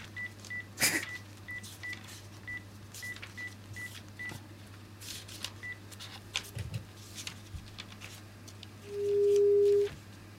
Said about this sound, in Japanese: ちょっと、あいつに電話かけよう。 あいつ しかいない。 あいつ出てくれそうな人ですか。 わかんない、出るかな。